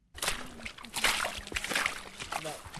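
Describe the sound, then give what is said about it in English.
The River Otter near the town of Ottery St. Mary in western England rushes and splashes steadily, with irregular sloshing bursts over a continuous watery hiss, and a faint voice now and then beneath it. “That's the main river otter, just there.”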